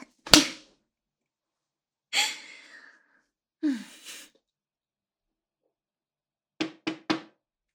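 Three quick, fairly loud knocks on a door come near the end after a sharp snap and a couple of breathy sighs in otherwise quiet surroundings.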